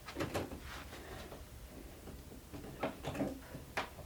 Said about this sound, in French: Je ferme la porte? Oui, s'il vous plaît.